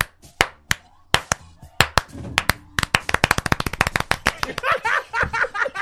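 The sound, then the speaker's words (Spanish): Sparse, scattered hand claps from a group gradually thicken into a rapid patter of many claps, a deliberate 'rain applause' mimicking rain building from first drops to a steady shower. “Hagamos aplauso de lluvia, aplauso.”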